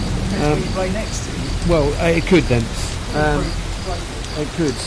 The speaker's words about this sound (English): So, raining! And now it's raining. Couldn't really get much worse.